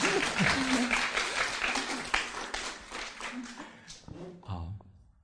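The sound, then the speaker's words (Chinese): A crowd breaks into steady, dense applause lasting several seconds, with a voice briefly heard over it before the clapping thins out and fades toward the end. “好，来，掌声给。”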